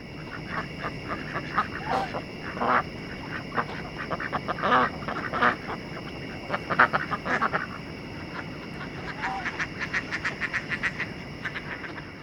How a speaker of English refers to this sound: Next, at the Virginia Tech Duck Pond in Blacksburg, about 100 ducks and geese were congregated and calling.